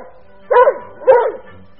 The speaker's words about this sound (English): Timmy barked in delight, and not even Uncle Quentin frowned at the tremendous noise. Good old Timmy.